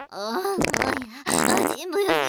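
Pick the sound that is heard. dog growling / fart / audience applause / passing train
fart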